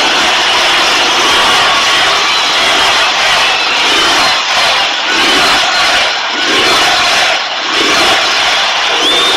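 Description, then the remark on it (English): A large crowd roars and cheers continuously, a loud, dense wall of shouting and yelling that swells and dips slightly over about nine seconds, with no clear individual speech. The crowd at a speech by President Trump cheers as a heckler is removed. “Crowd going wild.”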